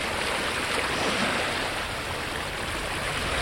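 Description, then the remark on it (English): Water washes steadily against the shore of the Sea of Galilee (the Kinneret), a freshwater lake in Israel, in a continuous rush of gentle waves, with no distinct individual splashes and no one speaking. “This is the freshwater lake where Christians believe Jesus walked on water, right here on the Sea of Galilee, known as the Kinneret by locals.”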